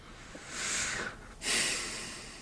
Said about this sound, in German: Ich bin ganz erleichtert. Ich schnaufe schon wie so ein, ich bin total erleichtert bei dieser Aussicht.